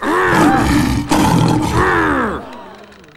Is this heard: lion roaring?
yes